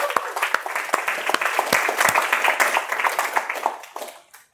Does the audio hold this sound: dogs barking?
no